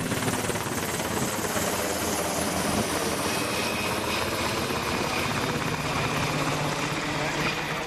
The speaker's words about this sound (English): The students will signal the helicopter into the drop zone.